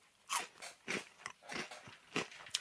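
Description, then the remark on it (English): Crisp, airy crunching of crispy Watsits cheese puff snacks being chewed, with about six or seven bursts of crackly crunches in an uneven rhythm, fairly quiet, with no talking. “He's pissing quickly because he knows I'm in here smashing the crispy Watsits.”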